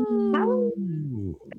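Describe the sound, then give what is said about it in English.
A person imitates a timber wolf howl: a single sustained, voiced cry that rises briefly and then slides steadily downward in pitch for over a second before trailing off, fairly loud. “There we go. Timberwolves.”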